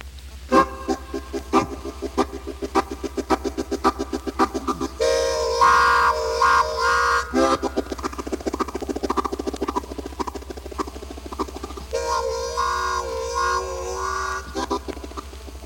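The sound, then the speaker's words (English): A train imitation played on an instrument: rapid rhythmic chugging that builds, then two long, loud whistle-like chords, with choppy chugging between them. “The train, non-musical.”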